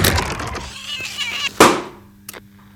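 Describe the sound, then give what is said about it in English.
A crackling, sizzling rush builds into one loud, sharp explosive burst, like a cat exploding, followed by a fainter short crack as the noise dies away. “Didn't mean to explode the cat.”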